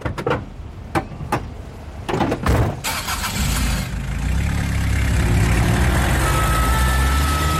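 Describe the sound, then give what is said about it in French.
A few sharp knocks and thuds, then a SAMU ambulance engine turns over and rumbles steadily louder, revving as the vehicle pulls away carrying a heart-attack patient toward the Pitié-Salpêtrière hospital emergency department, fairly loud with no voices. “Ok, on le met dans le camion tout de suite.”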